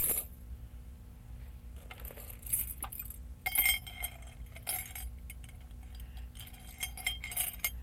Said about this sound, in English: That's right. That's a key. Put them in the cup.